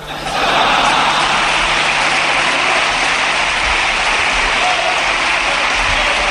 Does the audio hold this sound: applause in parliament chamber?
yes